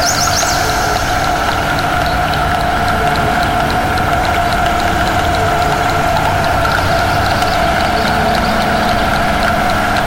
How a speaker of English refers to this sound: There's a school bus going by.